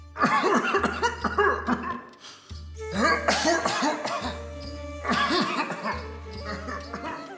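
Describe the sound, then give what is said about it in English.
An elderly man, King Dasharatha, coughs repeatedly at night in the palace in three harsh, rasping bursts, each a cluster of hacking coughs, loud with brief pauses between fits. “Night after night, Rama would hear his father's coughs echoing through the halls.”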